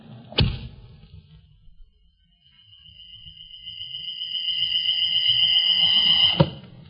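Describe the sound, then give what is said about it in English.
A sharp twang of a rawhide bowstring on a strong bow bent almost to breaking, a brief pause, then a high whistling whoosh that swells louder as the gleaming arrow flies at a flying target, ending in a hard thunk as it strikes. “A gleaming arrow set against a rawhide string. A strong bow bent almost to the breaking point.”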